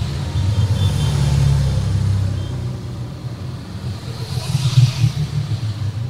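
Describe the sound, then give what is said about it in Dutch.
A whole caravan of motorcycles, the Hells Angels, rumbles past, engines droning and revving in a steady low roar that swells and fades as the machines go by, with no talking. “Is het ook gunstig dat terwijl er een hele karavaan aan motoren langs komt.”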